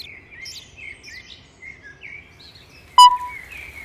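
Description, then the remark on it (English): High, thin chirps and twittering calls from baby birds in a nest overlap continuously, with a sharper, louder peep near the end; the chattering sounds busy. “Listen, what is it? Baby birds.”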